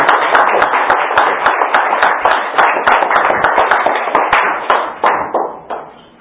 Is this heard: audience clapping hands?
yes